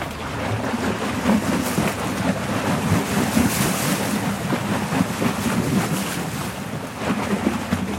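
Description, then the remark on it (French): Steady water sloshing and lapping against the banks, stirred up by a passing boat, with continuous wind rumble buffeting the microphone throughout; no voices. “Il y a un bateau qui est passé, c'est ça ? Ah oui, c'est le bateau qui fait ça.”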